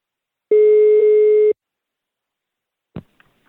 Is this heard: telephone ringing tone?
yes